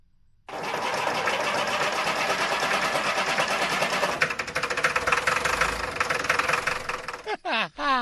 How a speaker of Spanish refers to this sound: Es como una especie de tractor de los años 40.